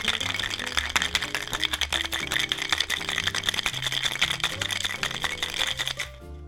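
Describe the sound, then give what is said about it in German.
A filled cocktail shaker with a glass on top, holding ice and white rum, is shaken hard, its ice rattling in a fast, steady rhythm for about six seconds before stopping abruptly, with soft music playing underneath throughout. “So, Shaker ist gefüllt, Glas oben drauf. Los geht's.”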